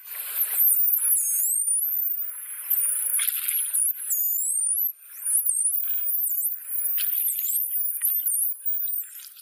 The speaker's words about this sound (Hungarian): Tehát a delfinek kommunikálnak a víz alatt ilyen nagyon éles, sípoló hangokkal. Ezt hallod a víz alatt? Igen, ezt hallani.